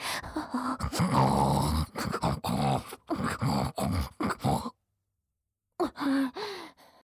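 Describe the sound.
A human voice imitates a pig with a quick run of rough, nasal snorts and grunts, goes silent for about a second, then lets out a few more snorting grunts.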